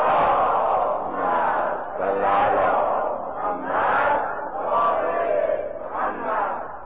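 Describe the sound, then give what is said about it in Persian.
A large crowd recites salawat, the blessing on the Prophet, aloud in unison, many voices rising and falling together in a loud, rhythmic recitation that fills the whole clip. “صلوات بلند خواند کنید.”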